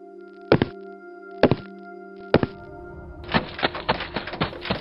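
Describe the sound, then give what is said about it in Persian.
Knocking on a door in a building where no one answers: three heavy, evenly spaced thuds, then a rapid flurry of loud, insistent knocks. A steady low hum runs underneath, and no one speaks. “در زدن فایده ای ندارد.”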